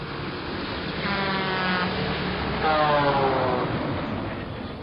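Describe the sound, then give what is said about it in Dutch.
A truck with a nylon cover drives past, its engine droning over a steady roar of road noise, with the motor's pitch swelling twice as it goes by. “Waai maar over op de wieler die daar aankomt.”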